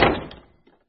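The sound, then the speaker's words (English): An old man steps inside and slams a chipped green door shut behind him once, a sharp, heavy bang that rings out and fades within half a second, followed by a faint rattle as it settles. No voices. “The old man stepped quickly inside and slammed the door behind him.”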